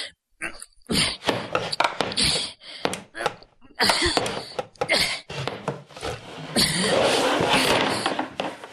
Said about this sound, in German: Ich kämpfe mit einem widerspenstigen Stuhl. Und ich glaube, ich siege.